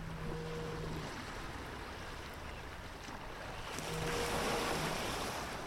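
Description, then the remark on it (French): A low, mooing tone from a sound buoy known as 'la vache de Brignot' (the cow), in southern Finistère, sounds twice, each blast about a second long, partly buried under steady, loud rushing surf and wind. “Celle qu'on entend, c'est la vache de Brignot, Finistère Sud.”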